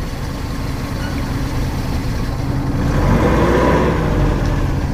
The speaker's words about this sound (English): He left the engine running on purpose.